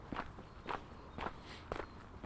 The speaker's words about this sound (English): So you can hear the crunch underfoot.